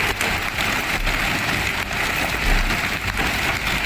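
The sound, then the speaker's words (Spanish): Hail falls in a dense, steady clatter of countless small impacts, loud, with occasional sharper hits standing out, during a Friday afternoon storm in Aragón, Spain. No one speaks. “Este era el sonido del granizo que ha acompañado buena parte de la tarde de este viernes en algunas zonas.”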